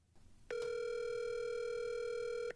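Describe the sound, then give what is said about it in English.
An outgoing phone call's ringing tone, a call to Elliot Kalin: one steady, buzzy electronic tone that holds for about two seconds at even loudness, then cuts off, with no voices. “Let's see if we can get him on the phone.”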